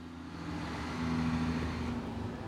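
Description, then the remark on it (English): An unarmored military utility truck rumbles past at Fort Bragg, taking students and their supplies out to the training environment, its engine droning steadily with a low hum and a slight swell in loudness midway. No one speaks. “The truck that just drove by is one of our unarmored utility trucks that's taking students and their supplies out to the training environment.”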